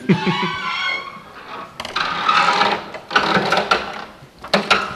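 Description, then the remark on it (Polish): A door creaks open: a drawn-out, wavering tonal groan followed by three rough, grinding creak bursts of varying length, fairly loud, with no talking. “Jeszcze coś trzeba było wymyślić na to skrzypienie, które państwo słyszeli wcześniej.”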